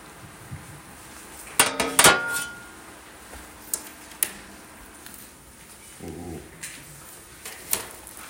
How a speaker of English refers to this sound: Ooh. Oh, that's barking.